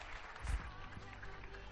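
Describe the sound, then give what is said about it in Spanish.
Scattered applause from many people clapping from balconies across a neighbourhood in Spain, a continuous diffuse clatter of clapping that is fairly faint, with one brief low thump partway through. “Depende, claro, del sonido que tengamos y cómo lo captemos, y si tenemos un aplauso más cercano tapa el aplauso genérico de todo el vecindario.”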